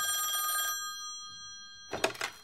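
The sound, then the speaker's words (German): A mechanical telephone bell rings in a short rattling burst, its metallic tone hanging in the air and fading, then clatters into another ring at the end. Fairly loud, with no voices. “Solche Ausschläge könnten verantwortlich sein für die knallenden Lampen und die selbstständig klingelnden Telefone.”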